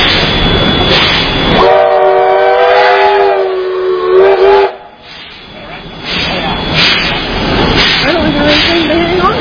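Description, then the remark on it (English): A train horn blows one long, steady chord for about three seconds over a rough rumbling background, then a shorter, softer horn note rises near the end. “They used to have different different codes on those horns for different engineers in the engine.”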